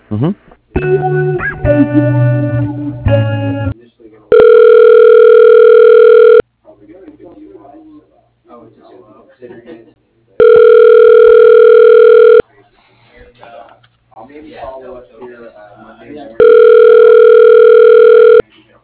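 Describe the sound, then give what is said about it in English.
Four office phone lines ring in a steady electronic pattern: three long, even buzzing tones about two seconds each, spaced evenly apart, with a burst of jangly ringing at the start and faint voices between rings. “Everybody else has gone to lunch, and all four lines are ringing, so.”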